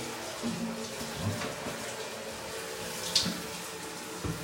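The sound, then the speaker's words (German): Shower water runs in a steady, even hiss for the whole stretch, with a brief bright splash or clink partway through and a faint low rumble underneath. “Wir beenden das Duschen. Wir fahren die Dusche runter.”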